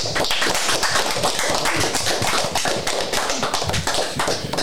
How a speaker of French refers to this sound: On peut vous applaudir également.